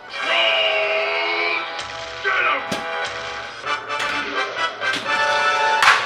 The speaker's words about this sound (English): That cracking sound means Frankel had a solid game. She scored enough points to get a replay or a free game.